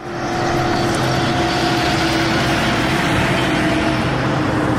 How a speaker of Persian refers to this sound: کامیون‌های مهاجران افغان فوج فوج به مراکز نگهداری دایر شده توسط دولت پاکستان می‌رسند.